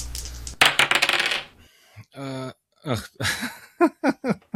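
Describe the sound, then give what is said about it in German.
Dice clatter and tumble loudly across a hard surface for about a second, followed by a few short voiced sounds from someone. “Lasst die Würfel rollen.”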